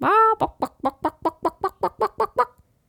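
A mother hen clucks, opening with one drawn-out call and then about eleven quick, evenly spaced clucks in a steady rhythm, fairly loud, with no talking.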